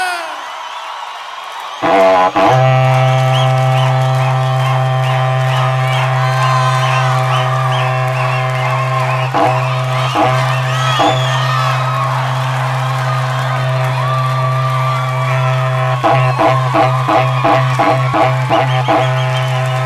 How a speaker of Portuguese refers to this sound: Essa berrantada vai para todos os apaixonados pela música sertaneja!